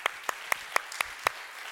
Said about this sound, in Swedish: Ska vi klappa om dem också?